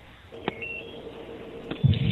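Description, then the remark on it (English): Faint electronic beeping tones hum steadily, with a higher tone briefly sounding early on, a couple of sharp clicks, and a low rumbling noise rising at the end. No one speaks. “I'm hearing beeping sounds.”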